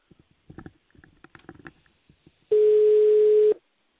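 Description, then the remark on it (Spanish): A phone line rings out as the boxing radio show Noche de Boxeo Radio calls a guest: one loud, steady ringback tone lasting about a second, following a stretch of faint, scattered low rumbling and clicks on the line. “En estos momentos está sonando el teléfono y vamos a ver si tenemos la respuesta que estamos esperando.”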